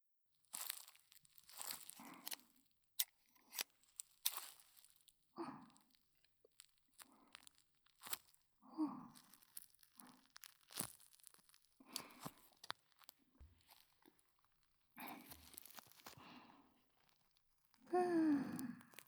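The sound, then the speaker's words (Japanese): Scissors snip and crunch through a rubber ball in short, irregular cuts, each a crisp tearing burst with brief pauses between, a louder crunching cut near the end. “結構切ったので、あとは、ハサミでボールをチョキチョキして切っていきます。”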